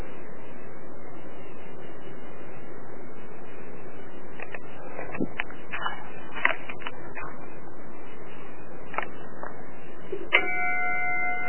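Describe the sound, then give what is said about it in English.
An antique brass fire bell dated 1845 gives several sharp metallic clangs over a steady hiss, then one final strike rings out with a bright, sustained tone. No one speaks. “Brass bell.”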